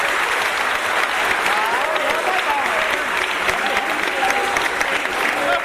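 Sustained applause from an audience, a dense steady clatter of many hands clapping at even loudness for several seconds, with faint voices and cheers mixed in underneath.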